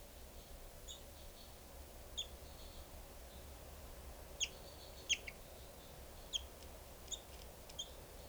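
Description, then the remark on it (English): Two tagged birds, numbers 395 and 425, calling: short, high chirps and squeaks arrive irregularly, about eight in all, over a steady low background hum. No one speaks. “395 and 425, both calling.”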